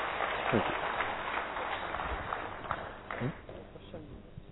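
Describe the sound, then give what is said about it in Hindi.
A crowd claps steadily for several seconds for a colleague who prepared a road safety presentation, a dense, even patter of many hands, with a few voices briefly rising through the noise. “उनके लिए एक बार जोरदार तालियां”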